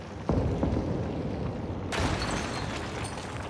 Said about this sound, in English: A minute later, a series of explosions shower the firefighters in colorful shards as the stained glass windows buckle and erupt.